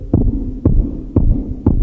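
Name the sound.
heart beating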